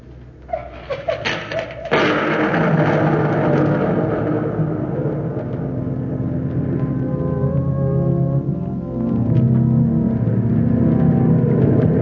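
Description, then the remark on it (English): After a couple of seconds of quieter, scattered sounds, heavy ocean surf surges in with a deep, booming roar that stays loud and continuous, swelling slightly toward the end. “The surf booms in. It is no longer silent.”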